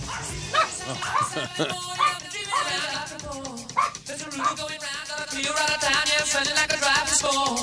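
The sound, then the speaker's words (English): Dogs bark and yip in rapid, overlapping bursts, loud, with some whimpering mixed in over a dense, busy background that includes voices, as a song plays. “Oh, the dogs hate that song.”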